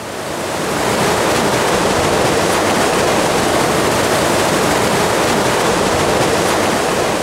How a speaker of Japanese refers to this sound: 癒されますね。 これが 本当に魚野川の全体のね水の流れ。 そうなんです。 雄大な水の流れがね。 雄大ですね。